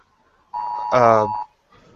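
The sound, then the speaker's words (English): A phone gives a single steady electronic beep lasting about a second, fairly loud, with a voice briefly talking over the middle of it. “stupid phone.”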